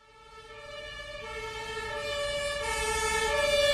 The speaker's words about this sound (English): An ambulance makes its way through a traffic jam at Hermannplatz. The plaza at the corner of Karl Marx and Hermann Streets takes its name right out of German history.